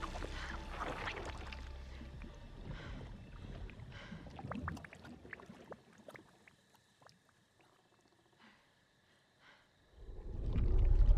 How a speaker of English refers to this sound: Bubbles pop on the surface of the mud.